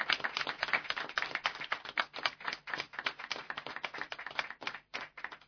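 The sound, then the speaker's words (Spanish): A group of people clapping for three years of Radio Tarumba, a dense, steady patter of crisp hand claps that keeps up for several seconds at a moderate level, with no voices. “Así que bueno, pues chicos, un fuerte aplauso por estos 3 años.”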